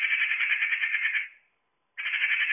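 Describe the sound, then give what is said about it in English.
A magpie's harsh, rapid rattling call, a loud dry chatter that runs for over a second, breaks off briefly, then starts up again. No one speaks. “You're out in the, amongst the trees and you hear that, you know it's a magpie.”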